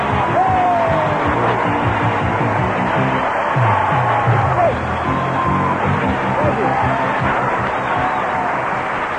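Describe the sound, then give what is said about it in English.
A game show studio audience at Television City in Hollywood cheers loudly and steadily, a dense roar of voices with scattered whoops, shouts and a few rising whistles carrying on without a break. “Well, they went crazy. They're cheering.”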